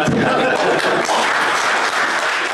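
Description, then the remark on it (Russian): Loud, sustained applause from a large crowd after Vladimir Putin presents Dmitry Medvedev with a painting titled 'In the Workshop', a dense wash of many hands clapping at once that continues steadily without pause for the whole stretch. “Бурные продолжительные аплодисменты.”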